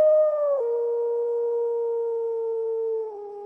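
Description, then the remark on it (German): A long, sustained wolf howl holds a steady, mournful pitch for several seconds, dipping slightly near the start and again toward the end, loud and clear with no talking. “Was ist mit den Wölfen? Sind sie in die verzauberte Höhle gelaufen?”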